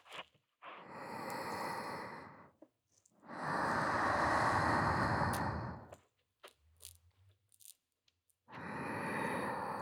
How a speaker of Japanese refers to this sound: 吐息でも温めちゃいましょうか。